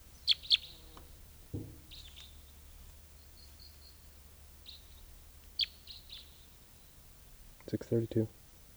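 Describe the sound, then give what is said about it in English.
A wild male bird sings at Bird Dam in short, high, chirpy phrases spaced out over several seconds, fairly soft, with a few brief lower thumps and clicks between the notes. “Here's the wild male who is singing.”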